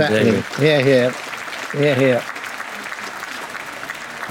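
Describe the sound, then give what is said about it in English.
Audience applause, a steady crackling patter of clapping, with three short bursts of voiced whooping or cheering over it in the first two seconds before the clapping continues alone. “Round of applause”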